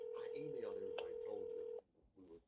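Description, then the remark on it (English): A steady electronic telephone dialing tone from a call to a phone number hums under a person talking for nearly two seconds, then cuts off abruptly as the talking continues more quietly. “So let's see if she'll answer this strange number.”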